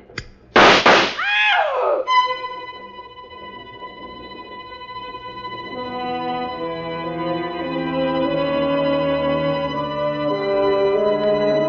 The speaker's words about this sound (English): The shots missed Claire. They missed me. They were, after all, shots in the dark.